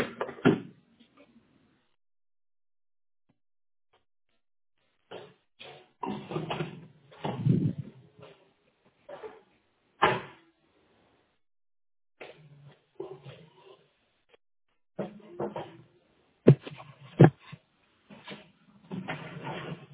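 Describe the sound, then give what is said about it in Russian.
An internet ethernet cable being unplugged and pushed back in until it clicks: scattered plastic handling and fumbling noises broken by several sharp clicks, with two crisp snaps near the end. “Так, а сам интернет-кабель можете выдернуть и до щелчка обратно вставить?”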